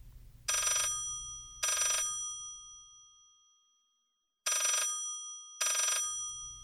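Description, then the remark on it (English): A telephone rings loudly in two double bursts, a bright, metallic ring-ring, a pause, then ring-ring again, over a faint low hum that drops away between rings. “Let's face it, picking up the phone one day or one early morning in October and hearing a voice with a Swedish accent assuring you that the Nobel Committee had not, in fact, misdialed, well, that would certainly be music to a scientist's ears.”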